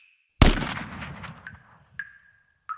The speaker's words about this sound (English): Norton nodded, and after he walked away, a gunshot rang out. Tommy fell dead.